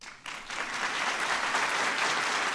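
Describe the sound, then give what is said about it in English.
A room full of former White House staffers breaks into sustained applause at the unveiling of new portraits of George and Laura Bush, many hands clapping in a dense, steady wash of sound that swells within the first moment and holds evenly throughout. “A room full of former White House staffers applauded when the new Bush portraits were unveiled.”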